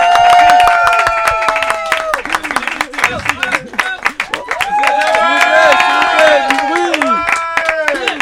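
A crowd applauds loudly and continuously, dense clapping mixed with cheers and whoops, with brief calls rising above the steady roar throughout.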